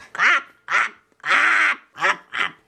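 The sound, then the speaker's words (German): A person imitates Blackie the raven from the 3 Detektive radio plays with five harsh, nasal squawks in an uneven rhythm, the middle call drawn out longest, loud with brief gaps between. “Stimmt, ich bin es gar nicht. Ich bin Blackie, der Rabe.”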